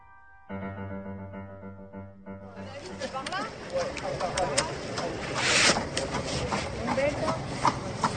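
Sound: horse-drawn carriages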